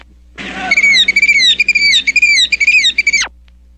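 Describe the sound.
A person imitates a killdeer's call: a rapid run of shrill, high whistled notes, each sliding slightly downward, repeated for about three seconds with no talking.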